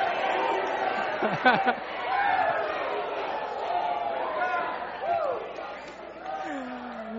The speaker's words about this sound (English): So let's thank God. Yeah, do your group cheer.